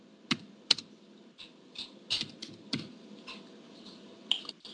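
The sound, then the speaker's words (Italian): Keys clack on a computer keyboard in an irregular burst of typing, with a few sharper, louder strikes standing out among softer taps, with no one speaking. “Vi metto la sigla da digitare nel motore di ricerca.”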